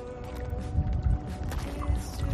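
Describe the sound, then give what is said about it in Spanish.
Waves breaking on the shore at Es Castell, a small, quiet fishing village on the island of Menorca: a steady low rumble of water with a couple of swelling surges and some wind noise, and no clear voices over it. “Amigos de la contraportada, saludos desde Escastell, un pueblecito pequeño de la isla de Menorca, un pueblecito pesquero, tranquilo, donde solo se escucha esto, el romper de las olas.”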